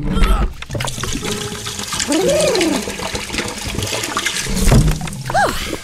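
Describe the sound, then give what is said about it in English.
A couple of gallons of fizzy liquid, called burp water, pour in as a secret ingredient with a steady, loud rushing and splashing for several seconds, broken by a few bubbly gurgles and glugs. “And now, for the secret ingredient, a couple of gallons of the old burp water.”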